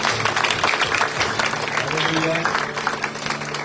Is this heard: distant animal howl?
no